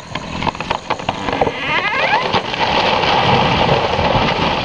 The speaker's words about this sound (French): De gros nuages, tout gris dans le ciel, se préparent à pleuvoir. Un gros éclair frappe un arbre et il est mort.